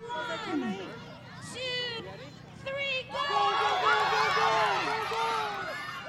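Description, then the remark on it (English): A lively crowd of children and adults at the Croc Center Easter Egg Hunt chatters all at once, high excited kids' voices rising and overlapping into a steady, loud babble that swells after a brief dip, as 4-year-olds line up getting ready to start. “we are at the Croc Center Easter Egg Hunt. 4-year-olds are lining up and getting ready to start.”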